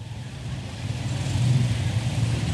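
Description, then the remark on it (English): Steady street traffic hums outside a hotel in the Philippines just after rain has stopped, with car engines rumbling low and swelling slightly as vehicles pass, plus a broad hiss of tires on the road. No one speaks. “So the rain stopped, but still tons of traffic.”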